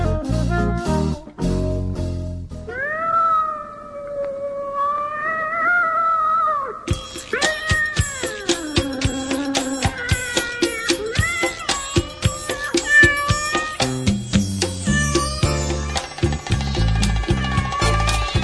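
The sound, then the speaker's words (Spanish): Long, drawn-out cat meows and yowling caterwauls rise and bend in pitch, loud, layered over lively rhythmic music with plucked and percussive beats, introducing the 'rincón del gato' segment of the radio show El Callejón del Hambre. “el rincón del gato, un lugar donde acurrucarse o soltarse el pelo, en el Callejón del Hambre.”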